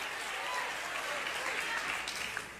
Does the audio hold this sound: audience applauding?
yes